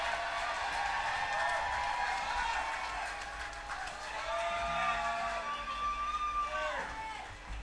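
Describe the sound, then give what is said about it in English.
Steady applause from a sizable audience for the band, with scattered whoops and shouted voices rising over the dense clapping throughout. “How about for the band, y'all? Give them a good round of applause.”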